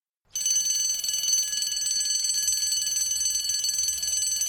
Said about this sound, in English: At last, the final lesson ended and the bell rang to signal the end of the day.